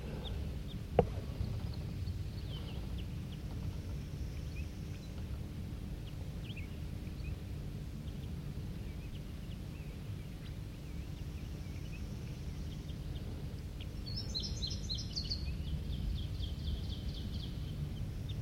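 Crossbills up in an oak tree right next to a net give short, high chipping calls, a few scattered early and a quick burst of repeated chips near the end, over a steady low rumble of wind.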